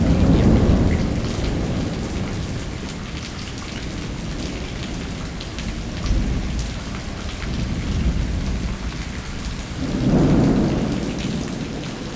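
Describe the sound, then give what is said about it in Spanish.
Steady rain hisses throughout a thunderstorm while deep rolls of thunder rumble at the start, midway, and again near the end, the last swell the loudest. No voices are present. “The thunder god poured rain from the Milky Way.”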